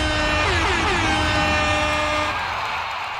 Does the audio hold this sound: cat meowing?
no